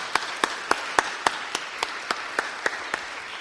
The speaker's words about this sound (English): Not only did she attain this 4.0, she did it in 3 years. So a huge round of applause. Wow.